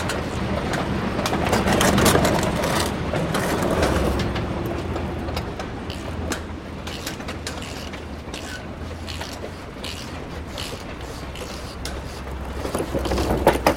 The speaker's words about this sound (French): Là, je remets les plaques moteurs, en fait. C'est un nettoyage que ça commence à être gras. Là, on refixe les plaques à l'intérieur.